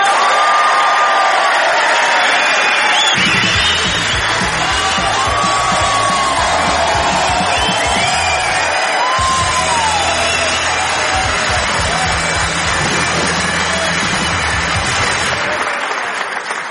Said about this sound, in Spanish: Claro que no tengo que pediros un aplauso porque lo vais a dar así de corazón cuando os diga quién viene. Él es Agustín Jiménez.